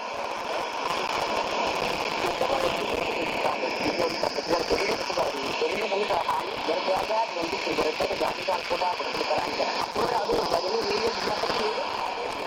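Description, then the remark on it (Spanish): A shortwave radio broadcast buried under steady, dense white-noise jamming; a muffled voice struggles through the constant roaring hiss, which stays loud and unbroken for the whole clip. “850 kHz con 250 kW de potencia en idioma oromo, recibiendo su señal un fuerte jamming proveniente de Etiopía bajo la modalidad de interferencia conocida como ruido blanco digital.”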